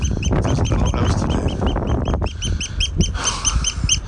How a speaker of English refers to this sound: What's wrong with this bird? What's up, mate? Oh dear. Tweet, tweet, tweet.